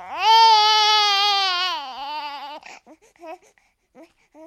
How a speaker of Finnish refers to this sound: Vauvathan tuppaavat itkemään aika usein ja aina ei voi tietää, mistä tämä johtuu.